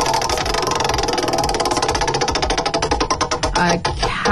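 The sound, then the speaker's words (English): A prize wheel spins to pick a quiz category, with a rapid, steady stream of ratcheting clicks that gradually slow and spread apart toward the end, over a low rumbling background. “All right, let's well spin possible. This wheel to get to the category for 5 in 10.”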